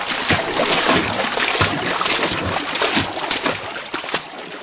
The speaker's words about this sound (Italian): Appena Geppetto si fu accomodato per bene sulle spalle del figliuolo, Pinocchio, sicurissimo del fatto suo, si gettò nell'acqua e cominciò a nuotare.